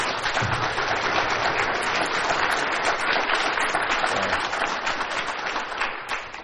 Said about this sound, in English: That's enough of that. You don't clap for me.